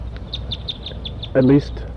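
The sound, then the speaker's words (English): At least six to eight wild birds perched in an oak tree above a net site give flight calls: a quick, steady string of thin, high chirps, then a short, louder, lower call with a throaty, clucking tone, over a low background rumble. “There are a bunch of wild birds around here.”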